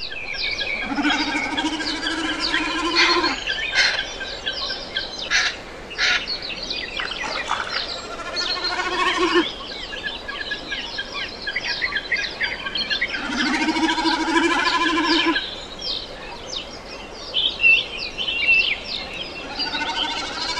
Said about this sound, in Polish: Nagranie Szweda bardzo świeże, bo z 14 maja tego roku, pochodzi ze strony Xeno Canto. Charakterystyczny głos bekasa krzyka rozpoznają Państwo od razu. Pojawi się 4-krotnie.